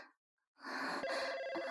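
After a moment of silence, a telephone starts ringing, a loud, steady trilling bell that carries on without pause until the end. No one speaks.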